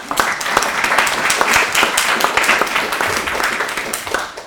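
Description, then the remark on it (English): An audience at a yoga workshop breaks into steady applause for a speaker, many hands clapping together in a dense, sustained patter that stays fairly loud and even throughout. “I have to see if you'd clap at the end as well.”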